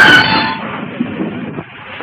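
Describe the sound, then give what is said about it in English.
A train grinds to a halt after the emergency stop cord is pulled: a sharp, high brake squeal and hiss at the start, then a steady low rumble that slowly settles and fades. “Iris tears free, dashes to the end of the car, and pulls the emergency stop cord.”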